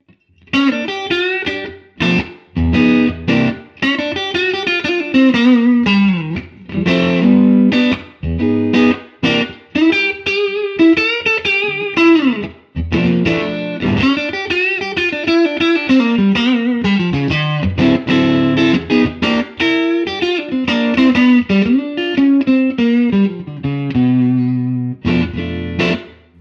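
A clean, warm Stratocaster electric guitar on its neck pickup (Stevens Design Mojo 64 Stagger pickups, ash body, nitro finish, maple and rosewood neck) through a 1967 Fender Super Reverb amp with CTS Alnico speakers plays a continuous melodic passage of single notes and bends, loud, with a slightly driven tube-amp tone and no talking.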